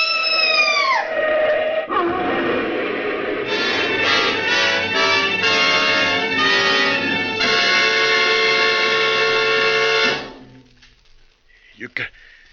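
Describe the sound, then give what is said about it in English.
An approaching train's loud, blaring horn sounds a sustained, multi-tone chord that shifts pitch in steps for about ten seconds, then cuts off, leaving a faint rumble and a brief squeal. “Look out for that train!”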